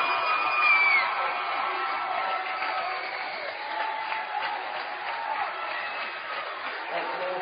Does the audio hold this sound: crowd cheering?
yes